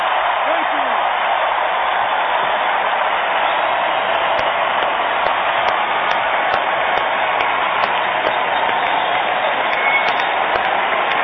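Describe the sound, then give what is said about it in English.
A large crowd applauds steadily, a dense, continuous roar of clapping that holds at an even, loud level throughout, with faint cheers mixed into the wash of hands. “I think you just heard the sound of Mark Levine's two hands clapping”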